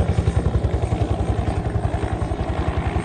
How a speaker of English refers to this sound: Red helicopter is coming in now, and he's coming down right here into the car park.